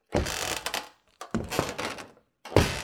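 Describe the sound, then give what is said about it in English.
Three heavy, clumsy footsteps of someone trying to walk quietly across a room, each a loud thumping, clattering burst about a second long, separated by brief pauses, with no talking. “Jeez, why is it when you try to walk quietly, that's when your footsteps sound like a herd of elephants stomping across the room?”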